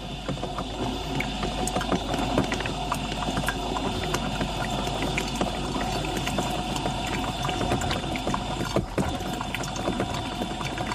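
Water splashes steadily from a coffee machine over a constant mechanical pump hum, close and fairly loud, continuous from start to finish with no voices.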